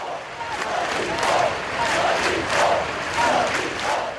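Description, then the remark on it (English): A large crowd in Barcelona, Spain, chants "We are not afraid" in unison after a moment of silence for attack victims, voices rising and falling in a steady, repeated rhythm about every half second, loud with a dense wash of many voices. “Today, a moment of silence was held across Spain in memory of the victims, after which crowds broke out in a spontaneous chant, "We are not afraid."”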